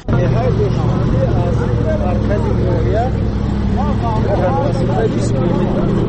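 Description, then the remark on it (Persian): A large cargo truck's heavy engine drones steadily and loudly throughout on a rough road, with rattling road noise, while several voices chatter over the rumble. The truck carries residents and their loads from the Baljuvan district centre to the remote villages of Shahidan and Baqi Zaghan in Tajikistan. “حالا همراه با گروه ساکنان این روستاها در ماشین کلان باربر حرکت داریم و این مردان بار میکشنند به خانه های خود تا زندگی خودشان را تأمین کنند.”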